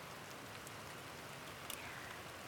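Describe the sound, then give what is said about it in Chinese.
Steady, dense rain falls continuously with a soft hiss, a few sharper drops or splashes standing out briefly near the end; no voices, just the even wash of rainfall outside. “外面的雨下得更密了”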